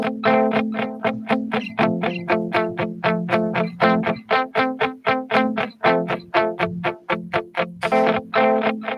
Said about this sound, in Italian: Allora, io metto per esempio un eco sulla chitarra, che fa questa roba qua, e registro una parte che sottolinea quegli accordi.